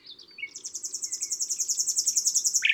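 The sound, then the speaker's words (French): A common nightingale sings alone, opening with a few high whistled notes before launching into a rapid, steady trill of repeated sharp pulses that grows louder and ends abruptly. “Enfin, c'est en avril que revient le rossignol.”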